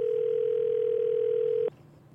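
A steady, unbroken telephone dial tone hums alone at a fairly loud, even level while a call is placed to a number in Rockaway, New Jersey, then cuts off abruptly just before the end, leaving faint line noise.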